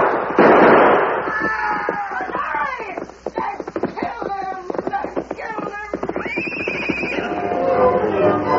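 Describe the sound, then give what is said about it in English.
A loud, sharp burst of gunfire opens, then gives way to a busy stretch of raised voices and commotion, with a few sharper cracks mixed in. “He's glad to go anywhere after away from that shooting.”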